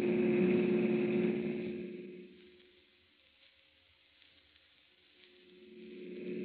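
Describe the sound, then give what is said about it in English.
The engine of a car driven by a police officer roars steadily at speed, loud at first, easing off to a quieter hum in the middle, then swelling back up as the car keeps driving. No voices. “Oh, officer, can't you go faster? I'm driving as fast as I can”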